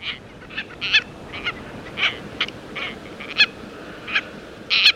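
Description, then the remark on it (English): Harsh, shrill calls of red-billed tropicbirds, sparkling white seabirds with red bills and long tail streamers, ring out in a rapid irregular series of rasping screeches, loud, with no talking. “sparkling white seabird with a red spear of a bill and luxuriantly long tail streamers”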